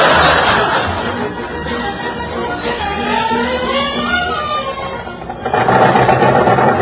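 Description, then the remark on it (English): A car engine pings, running with a rough, rapid rattling knock, steady throughout, swelling louder at the very start and again near the end. “I gotta do something about that ping in the engine.”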